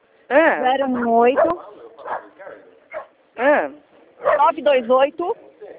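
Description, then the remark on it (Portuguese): A neighbour's dog barks and yelps during a phone call to Guarujá, in a string of irregular, insistent bursts with short pauses between. The sound is fairly loud but thin and narrow, like it's coming through a phone line. “A senhora pode segurar esse cachorro? É uma delícia chegar em casa e escutar o latido deles.”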